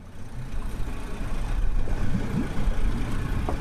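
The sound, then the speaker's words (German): A motorboat engine drones steadily while crossing the Paraná River at Rosario, Argentina, where the river is 500 meters wide: a continuous low rumble at an even loudness with some churning texture, and no voices. “setzt mit dem Motorboot über.”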